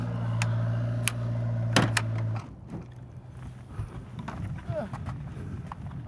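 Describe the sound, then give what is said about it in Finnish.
Several sharp, hollow hoof clops of a horse, about to be ridden, sound over a steady low hum, then give way to quieter shuffling and rustling movement. “Eikö sä et hyppääkään hevosen selkään sillä tavalla rennonletkeesti, vaan sulla on jakkara?”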